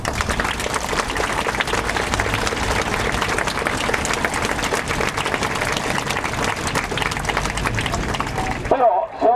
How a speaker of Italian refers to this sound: per il quale vi chiederei un grosso applauso